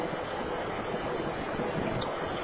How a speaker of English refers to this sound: Hear the solenoid bell? Solenoid, yeah. Yep. So it's going to allow water to fill into the pan. And if you leave this, it'll time out in 5 minutes, 3 to 5 minutes, and go back to normal.